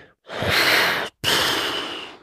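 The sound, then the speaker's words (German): Two loud, close breathy whooshes from a dolphin-like marine animal surfacing with its back out of the water to breathe, a forceful exhale followed almost immediately by a second rushing breath, with no talking. “Und die waren so nah, dass ich sie tatsächlich atmen hören konnte.”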